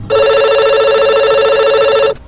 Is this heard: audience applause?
no